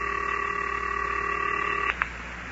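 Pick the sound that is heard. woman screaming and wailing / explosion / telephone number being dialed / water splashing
telephone number being dialed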